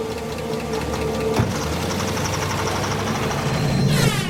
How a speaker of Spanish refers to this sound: Luego llegó un auto.